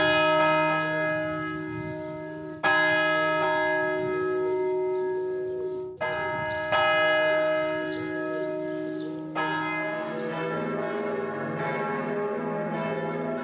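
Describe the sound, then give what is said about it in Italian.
Church bells of a church in the Lugano area and of Bern, Switzerland, toll slowly and loudly in mourning at noon after a minute of silence, a nationwide commemoration of the dead, with fresh strikes at regular intervals while the long ringing overtones linger and overlap. No voices, only the resonant, solemn pealing. “Questi i rintocchi a lutto poco fa di una chiesa nel Luganese e di quelle della capitale a Berna, un modo insomma per ricordare i morti, esprimere solidarietà nei confronti di chi ha perso una persona cara e confortare chi ancora soffre.”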